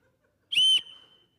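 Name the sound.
whistle being blown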